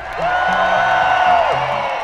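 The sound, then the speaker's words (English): A large outdoor festival crowd cheers and whoops together, a dense wash of voices with one rising-and-falling whoop standing out, loud and sustained throughout. “Can I hear you cheer louder than that?”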